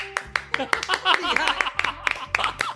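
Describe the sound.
Steady hand clapping, about a dozen sharp, crisp claps at a fairly even pace, with a voice talking over the claps in the middle of the run.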